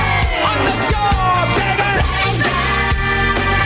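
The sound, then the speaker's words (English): A woman lets out a loud, drawn-out yell in a rock song played on a party bus, with steady drums and bass, her voice riding high above the full band mix. “Is this the song where she yells, oh, yeah.”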